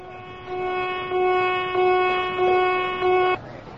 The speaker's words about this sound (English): What's that? It stopped. What does that mean? It means the alarm is over. Was there a fire? Yes, but it's out now. How do you know? A fire drill is much longer.